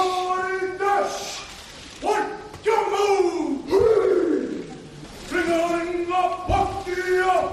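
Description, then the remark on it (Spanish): The New Zealand rugby team bellows a rhythmic haka war chant in unison for almost a minute at the Princesa de Asturias awards in the Teatro Campo Amor in Oviedo, loud stacked voices rising and falling in forceful shouted phrases, with sharp exclamations between lines. “En ese momento, durante casi un minuto, han representado su jaca, ese momento tan emotivo, tan especial,”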